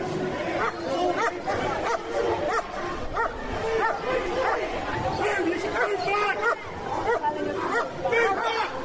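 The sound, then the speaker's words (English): Several large police Alsatian dogs bark repeatedly and loudly, some yelps mixed in, over a constant hubbub of a crowd chattering and shouting at a protest march. “There's a policeman with a great Alsatian. Three Alsatians coming now.”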